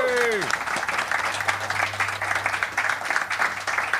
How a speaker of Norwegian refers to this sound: Gi en applaus til Asbjørn Slettemark, folkens.